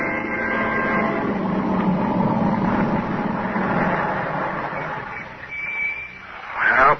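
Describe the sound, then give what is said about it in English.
A car engine hums steadily as the car drives up to a boarding house after a picnic, then eases off as the vehicle slows, with a brief high squeal and a short final burst of noise as it comes to a stop. “Benson drive up to the boarding house after their picnic, quite unaware of the dark squad car parked at the curb a few feet ahead.”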